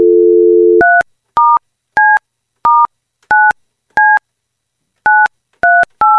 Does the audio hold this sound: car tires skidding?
no